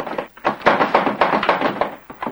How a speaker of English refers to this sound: He yanks on the sliding lock.